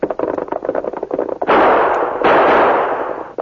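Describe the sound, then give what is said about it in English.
Two loud gunshots fired at a mounted mail rider, who falls from his horse, ring out in quick succession, each a sharp blast with a long, rough decay, following a stretch of rapid, irregular clattering beats. No one speaks. “You nailed him. He fell off his horse.”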